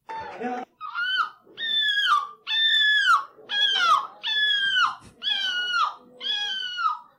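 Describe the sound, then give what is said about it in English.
A man imitates a seagull at a gull-calling contest, flapping his arms, with a loud series of about seven harsh, wailing calls in quick succession, each bending downward in pitch at the end, with short gaps between. “participants came from all over Europe to show off their gull calling skills”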